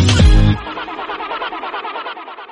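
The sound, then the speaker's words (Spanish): A car engine cranks over and over without catching. A loud jolt at the start gives way to a steady, rhythmic whirring churn from the starter, fairly loud, with no voices. “Cambiar el auto que se queda en pana.”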